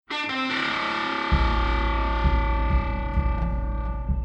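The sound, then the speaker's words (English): A deep, throbbing heartbeat-like drum pulse, derived from a recording of the in-utero heartbeat of Woody Jackson's baby daughter, enters after a moment and repeats steadily beneath a loud, sustained, distorted synth drone, with no voices present; a piece from the Red Dead Redemption soundtrack. “The pulsating background beat of this next piece is derived from a recording of the in utero heartbeat of Woody Jackson's baby daughter.”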